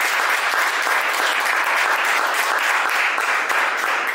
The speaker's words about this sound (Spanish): Amén. Se le va a dar un aplauso, déselo con ánimo, por favor.